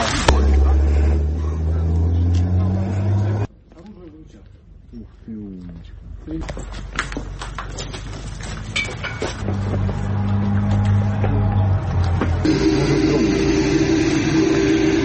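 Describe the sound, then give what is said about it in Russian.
A civilian car engine runs with a steady low hum, drops off abruptly after a few seconds as the car stops, then returns amid rattling, clattering road noise, with voices faintly in the background. “Тут сейчас, да, гражданская машина, да, стала.”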